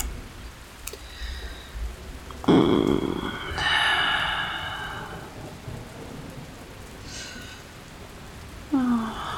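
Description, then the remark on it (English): Steady storm rain hisses throughout, with a heavier low rumble of thunder swelling partway through before the downpour settles back to a constant wash. “Listening to the storm so much, so much.”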